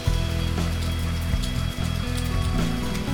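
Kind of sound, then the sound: nature, rain starting to fall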